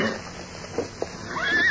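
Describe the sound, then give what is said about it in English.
A horse whinnies near the end, a rising, shrill neigh at moderate loudness after a moment of quiet background with a couple of soft thumps. No one speaks. The horse is beyond a rock. “There's a horse beyond that rock.”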